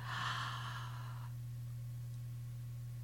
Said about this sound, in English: This is a very, very deep breath in.